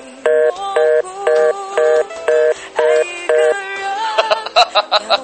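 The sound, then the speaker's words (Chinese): A phone line goes dead after a hang-up, followed by a steady run of about eight evenly spaced electronic tones, then a quicker flurry of short beeps at the end. No one speaks. “没事儿呢，我呢喝了点小破酒，就想给你打个电话。”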